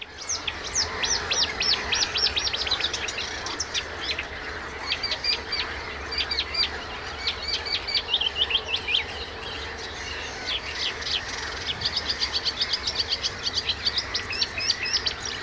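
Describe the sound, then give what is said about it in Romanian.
Dense, continuous chorus of reed warblers and other small reedbed birds chattering and trilling, recorded right beside the reeds from by a boat, with rapid repeated chirps and churring phrases overlapping over a steady low background hum; no talking. “Suntem undeva în lumea stufului, se auzeau ceva lăcar și alte păsări care sunt trăiesc în stuf.”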